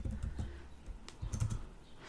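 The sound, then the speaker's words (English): Quick, irregular clatter of keys being typed on a computer keyboard, fairly soft, with short bursts of clicks and brief pauses between them and no voices. “Excuse my typing.”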